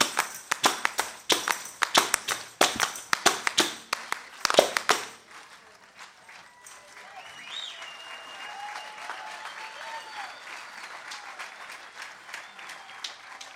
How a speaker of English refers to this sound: Clap your hands. Let me see how much rhythm you got.